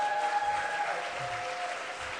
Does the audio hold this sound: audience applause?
yes